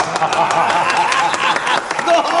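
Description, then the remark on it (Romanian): A crowd claps steadily in a dense, continuous patter, with voices mixed in underneath, holding at an even, fairly loud level throughout. “Hai, aplaudați, aplaudați, aplaudați!”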